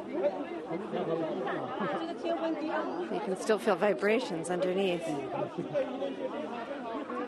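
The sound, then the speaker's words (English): Dense crowd chatter on a street after an earthquake, with people huddled together; many overlapping voices murmur and call out at a steady, busy level, with one clearer voice speaking over the hubbub and brief louder bursts midway. “People are huddled together here on the street.”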